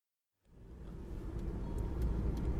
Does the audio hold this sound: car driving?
yes